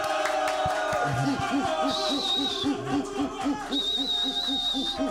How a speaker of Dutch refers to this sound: En jullie mogen een nog groter applaus geven voor onze guest